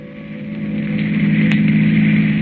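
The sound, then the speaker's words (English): A car engine hums steadily at cruising speed, a continuous low drone with a faint rise in loudness, heard alone without voices; a long black car speeding along the highway at night. “The long black car with the handsome man at the wheel and the woman beside him returns to the highway and speeds on through the night.”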